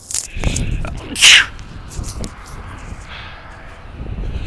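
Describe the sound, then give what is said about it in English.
A single loud sneeze bursts out after a quick sharp inhale, followed by a few seconds of quiet breathing and faint background hiss. “I'm going to sneeze.”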